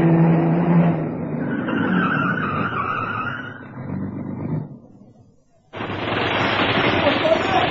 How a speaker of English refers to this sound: Just then, as I had arranged, a fat black saloon turned in from the 4th Street at Main and stopped outside the Harling Gallery.